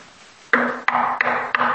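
Four sharp knocks come at a steady, even pace, each one ringing briefly. The knocking is fairly loud, with no talking.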